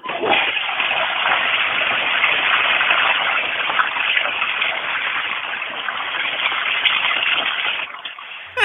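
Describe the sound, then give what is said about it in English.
A toilet flushes with a loud, steady rush of draining water lasting about eight seconds, sounding thin and muffled as if over a phone line, then cutting off abruptly. “Now, just out of curiosity, does that water go down the toilet clockwise or counterclockwise?”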